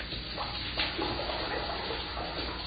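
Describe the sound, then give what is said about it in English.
Steady shower spray hisses continuously, a dense, even wash of running water with no pauses, fairly loud throughout, played from a sound effects record. “This is the famous shower sequence.”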